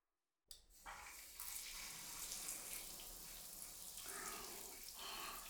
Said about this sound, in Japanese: とりあえずシャワーで流しちゃいましょう。